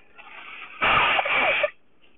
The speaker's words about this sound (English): I'm going to blow my nose, so put it on pause for just a second here.